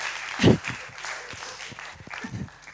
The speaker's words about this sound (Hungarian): egy nagy tapsot kérünk.